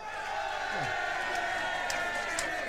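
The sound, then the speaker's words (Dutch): A large audience applauds and cheers as the last contestant arrives, a steady, dense wash of sound, with shouts and whoops rising briefly above the continuous clapping. “Met een hartelijk applaus,”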